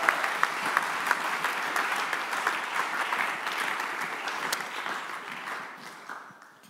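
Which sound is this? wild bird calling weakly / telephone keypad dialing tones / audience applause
audience applause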